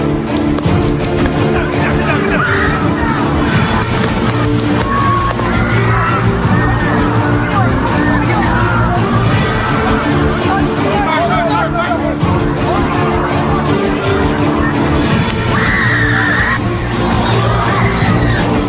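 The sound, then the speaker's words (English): A large crowd of people watching an assassin being shot screams and yells in a loud, continuous roar, with overlapping shouts and whoops rising out of a dense wall of voices for the whole stretch. “So the screams there presumably are people watching as the assassin had his basically head blown off virtually.”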